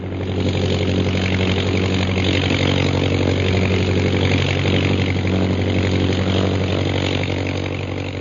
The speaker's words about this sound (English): I have to turn my motor on. We're losing altitude and flying speed.